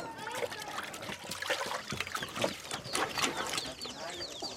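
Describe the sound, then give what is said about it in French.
Girls washing dishes under running water above the pigs: a steady splashing trickle with scattered clinks and clatters, murmured voices and a few chirping birds or clucking fowl mixed in. “À côté, j'entends les filles qui font déjà la vaisselle au-dessus des cochons.”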